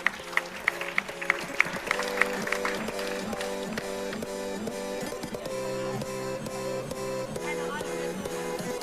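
An audience applauds after a robot race, in a steady, dense wash of clapping, with sharper rhythmic claps at the start and a pulsing tonal sound running underneath.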